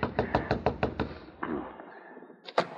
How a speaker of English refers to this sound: Frenchy quickly made his way to Nick's cabin and tapped on the door.